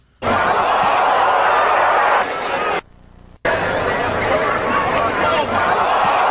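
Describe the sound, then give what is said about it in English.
A stadium crowd, heard in a video of the game in which a pitch going 100 miles an hour hit a bird, murmurs in a steady, dense roar of mingled voices and babble, cutting out briefly partway through before resuming at the same level. “Now, that's just the crowd. That's just the normal sound.”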